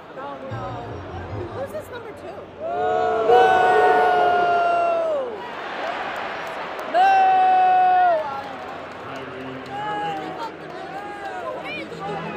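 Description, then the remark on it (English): A large crowd roars in a packed arena at a Celtics basketball game, with two loud sustained swells of cheering and whooping that rise and fall, separated by a lower steady hubbub of chatter. “This place is absolutely packed.”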